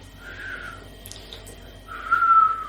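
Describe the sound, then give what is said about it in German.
A person whistles two short, breathy notes with a gap between them. The tone is airy and wavering rather than clean, like an unskilled whistle, and the second attempt is a bit louder. “Kannst du pfeifen?”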